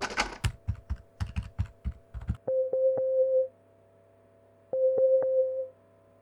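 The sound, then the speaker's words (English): A quick run of clicky button presses dials a telephone, followed by two steady electronic ringing tones, each lasting about a second with a pause between them, clear with no voices. “Before the operation kicks off, I'd better make a call.”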